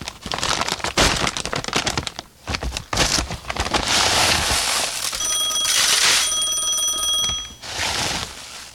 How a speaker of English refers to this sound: Mr. Scrooge, I believe the phone is ringing. Shall I answer it, sir? No, don't answer it, Cratchit. Get back to work. Mr. Scrooge, we shouldn't just let it ring like that.